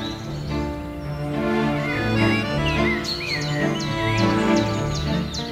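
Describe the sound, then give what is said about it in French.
Birds sing in a series of quick, bright chirps and rising whistles, layered over a steady, sustained low tonal drone that runs throughout. “J'aime les observer parce que c'est intéressant et puis faut écouter leur chant”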